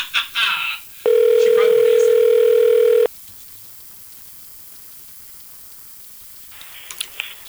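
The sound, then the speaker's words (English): A few quick telephone keypad beeps as a phone is dialed for an on-air call at WGH Radio, then a loud, steady electronic ringing tone held for about two seconds, followed by faint line hiss and a soft click at the end. “I got to learn how to dial a phone.”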